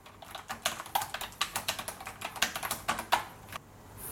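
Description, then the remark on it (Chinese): Rapid clicking of keys on a computer keyboard, a steady stream of crisp taps for a few seconds before trailing off, with no voices. “我有一副键盘，我在打字。”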